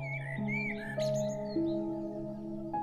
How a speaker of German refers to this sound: Die Vögel sitzen in den Bäumen und singen dir ihr fröhlichstes Sommerlied.